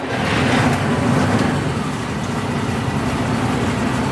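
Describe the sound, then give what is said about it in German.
A vehicle engine is switched on and roars loudly with a deep, steady rumble, a slight surge in the first second, then holds an even, throbbing idle for several seconds with no one speaking. “So, Achtung, ich mache jetzt an, jetzt wird es laut.”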